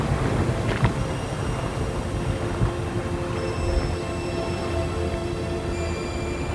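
A sailing ship moves under sail in the middle of the ocean. A steady roar of wind and rushing water fills the scene, with faint whistling tones from the rigging, continuous throughout with no voices.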